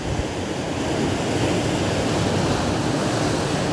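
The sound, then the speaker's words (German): A steady, full roar of ocean surf washing in continuously, with no distinct pauses between waves and no voices present. “Lausche dem Meer, lausche den Wellen.”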